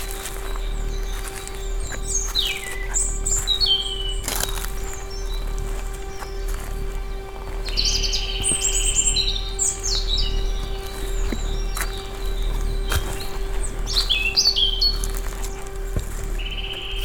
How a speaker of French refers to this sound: Le chant des oiseaux semble m'inviter marcher avec la plus grande attention.